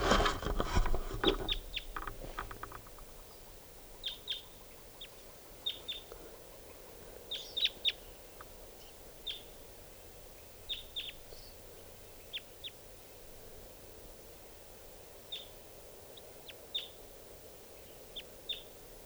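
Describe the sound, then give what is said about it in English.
A wild bird calls again and again with short, high, sharp chirps, scattered irregularly over a soft background hiss, after a brief rustling burst at the start. No one speaks. “Wild bird.”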